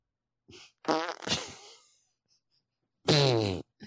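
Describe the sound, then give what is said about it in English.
A series of squeaky, buzzing fart noises from a novelty fart machine: two short sputtering bursts, a pause, then a final loud, tight squeaker. “Oh, there's a squeaker. I talked over that. Do that one again.”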